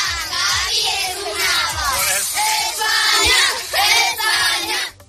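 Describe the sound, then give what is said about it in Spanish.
A large crowd roars and shouts together in celebration of Spain's national team beating France. The overlapping voices form a dense, continuous wall, with rising yells and swells of cheering, and stay loud throughout before cutting off. “Esto lo hemos gritado todos en las últimas horas.”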